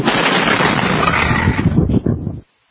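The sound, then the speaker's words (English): A massive explosion at a fertilizer plant, shortly before 8 o'clock Central Time, roars as a loud, distorted blast of rumbling noise that sustains for a couple of seconds with crackling bursts near the end, then cuts off abruptly. “there's these two large explosions and just a ball of fire all over the place at this fertilizer plant”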